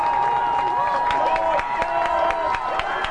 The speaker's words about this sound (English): Now the crowd's starting to get into it on both sides. Under 2 to play in the game. 20-14 Washington. But Prairie in the red zone.